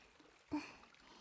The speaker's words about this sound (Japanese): シャワーで髪を濡らしていきますね。お湯が目に入るとよろしくないので、少し目を閉じていてください。